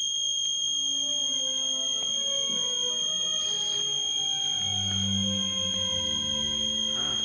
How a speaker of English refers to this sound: It's a damn smoke detector. I'll be right back.